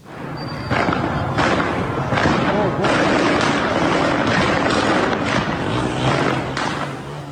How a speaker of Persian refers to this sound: ویدیوهایی هم در شبکه‌های اجتماعی منتشر شده که نشان می‌دهد نیروهای امنیتی به طور مستقیم به معترضان شلیک می‌کنند. در ویدیوهای منتشر شده دیگری هم معترضان در خیابان هدف گلوله قرار گرفتند.